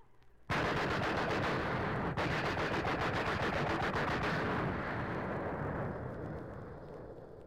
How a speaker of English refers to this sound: Comes the first duck. Picks up the shotgun, takes a bead on the duck. He's about ready to pull the trigger. Somebody on the right opens up with a machine gun.